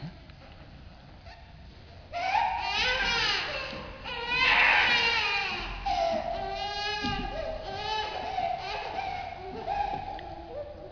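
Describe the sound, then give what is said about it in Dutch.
A baby wails during a church service in repeated rising and falling bursts, loud, with brief pauses for breath between cries. “een baby mag huilen, dat vinden we allemaal.”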